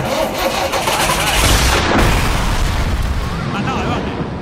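The engine of a new-generation methane bus, the first of ten just delivered, coughs into life with a loud explosive bang, then keeps up a heavy, rough, continuous rumble for several seconds.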